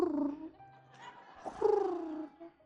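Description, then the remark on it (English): A woman makes soft, cat-like purring and cooing noises, two drawn-out gliding vocal sounds separated by a brief low hum, with no words spoken. “She purrs. Or coos. You coo. Because a purr would be like a cat, and those are not your favorites.”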